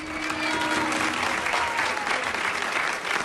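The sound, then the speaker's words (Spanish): An audience applauds steadily for a few seconds, a dense, even wash of many hands clapping at a constant loudness without letting up. “Aplauso para Nacho también, por favor.”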